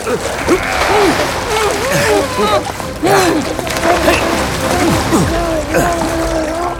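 Loud, continuous water splashing and churning as one person holds another's head under water, with strained, muffled vocal sounds of struggle mixed in throughout.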